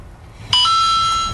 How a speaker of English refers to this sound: Your phone just having a field day, ain't it? Mm-hmm. I can't put it in airplane mode when I'm trying to do look up certain things, man.